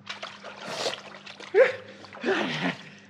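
Water splashes in a few short, irregular bursts as someone climbs into a cauldron of water, over a steady low hum. Nobody speaks.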